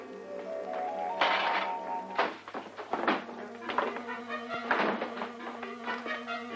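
A man throws books from a bookshelf onto the floor in a run of heavy thuds and clatters, scattered irregularly over a steady tonal musical background.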